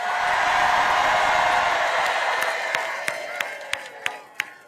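A large crowd in Wisconsin on a warm 78-degree afternoon cheers and applauds for Governor Tim Walz in a dense, roaring wash of noise that gradually fades, leaving a few scattered, distinct claps ringing out near the end.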